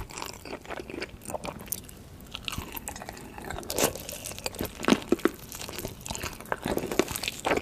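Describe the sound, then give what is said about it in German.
Two people on camera eat a huge pile of instant noodles, about five packs, from a big table, with wet chewing, crunching and occasional slurps in an irregular stream of short, crackly bursts. Moderately loud, with no talking. “Vor ihnen ist ein riesengroßer Tisch mit einem riesen Haufen Nudeln. Das sind, glaube ich, 5 Packungen von diesen Instant-Nudeln.”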